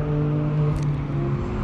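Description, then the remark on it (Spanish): A Clio rally car driving past, its engine droning steadily with a low, buzzing harmonic hum that holds fairly even in pitch and loudness throughout, with no one talking. “A ver si viene algún otro coche que suene más.”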